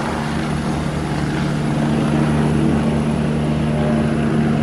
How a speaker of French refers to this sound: Alors là, Michel Polaco, il y a un hélicoptère de la sécurité civile qui vient de se poser. Tous les hélicoptères de cet héliport font du transport de passagers.